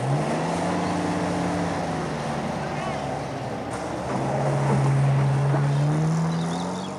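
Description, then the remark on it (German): An off-road vehicle rumbles loudly and steadily over a dead-straight but bumpy, dusty red dirt track in the Australian bush on a late-autumn morning, its engine droning with low tones that rise and fall in pitch, mixed with continuous rattling and road noise. “Der Geländewagen donnert über die schnurgerade, aber wellige, staubrote Piste.”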